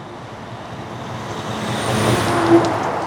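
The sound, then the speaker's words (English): A heavy logging truck rumbles along a road in a tiny town in northern Wisconsin, its low engine roar swelling louder, with a brief hiss near the end. No one speaks. “Kimball's a tiny town in northern Wisconsin where you're more likely to hear the rumble of logging trucks than the scream of an ambulance siren.”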